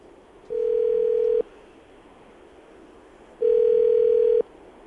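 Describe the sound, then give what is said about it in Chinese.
Two steady electronic ringback tones sound while a phone call to a father-in-law is placed a second time, each about a second long with a two-second pause between them, clear, with no voices. “好，看在你们在一起15年，然后还在一起没有破局的份上，我们再打一次。”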